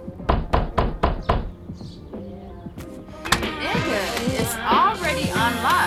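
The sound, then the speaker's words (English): About five loud, rapid pounding knocks on a door in a quick steady rhythm, followed by muffled voices and background commotion. “Why you beating on the motherfucking door like you the police or something?”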